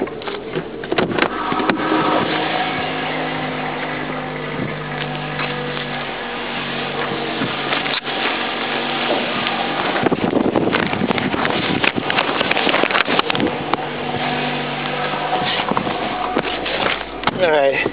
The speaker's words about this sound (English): That was the first thing right there that got flapped out in front of my face. I had the local Belton newspaper on the back of my car and it just flapped out.